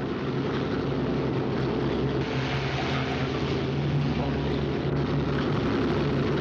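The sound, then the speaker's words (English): A loud, steady drone of airplane engines runs throughout as the plane leaves, a thick low rumble with a rough, churning texture and no pauses. “I'll have to arrest you, of course. As soon as the plane goes”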